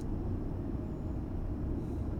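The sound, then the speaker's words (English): A steady, dense low rumble of city traffic, with a continuous muffled roar of vehicles and no distinct individual events across the short stretch. “Sounds of cars, people talking, trains.”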